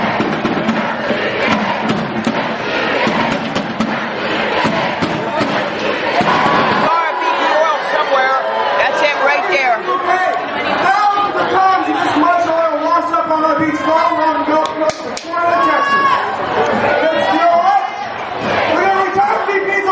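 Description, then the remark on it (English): A large protest crowd marches in on BP's Washington, D.C. headquarters over the oil spill, having set out from the Chamber of Commerce, many voices shouting and chanting together, loud and continuous, with a dense mix of overlapping yells throughout. “Here it is, the main power ship crew rolling in on BP.”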